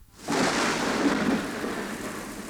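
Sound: thunder rumbling with rain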